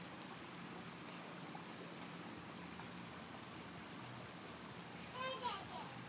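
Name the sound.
flowing stream water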